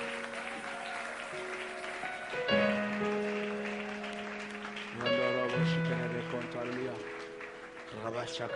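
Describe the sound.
A standing church audience claps and cheers steadily in acclamation to honor the Lord, a dense wash of applause and voices, while sustained keyboard chords shift underneath, swelling every couple of seconds.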